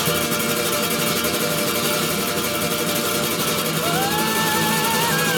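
A steady, loud engine roar fills the whole stretch, with a rising whine cutting in near the end as if something is speeding past.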